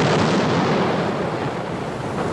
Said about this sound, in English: You're pointing the cannons at me. You're supposed to point the cannons up in the air, shoot them in the air. You don't point the cannons on me.